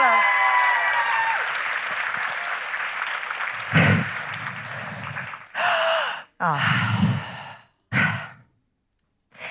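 A burst of audience applause, dense and steady for a few seconds, then breaking into short choppy bursts separated by abrupt silences before cutting off.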